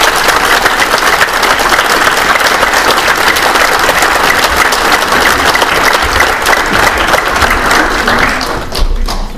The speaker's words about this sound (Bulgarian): Моля вашите аплодисменти за професор Халачев.